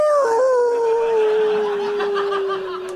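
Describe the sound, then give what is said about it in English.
A person imitates a wolf howl in one long, sustained, slowly falling tone lasting about three seconds, loud, with no other talking. “Well, of course, I'm good friends with the great wolf lords like Quintentius. Quintentius. Quintentius. And they know me as...”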